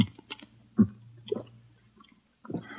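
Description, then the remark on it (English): Quiet wet slurps of someone sipping water through a glass straw, several short bursts with small clicks and gaps between them, over a faint low hum. No one speaks. “You sip a little water through this glass straw.”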